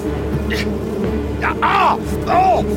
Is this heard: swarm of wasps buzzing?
yes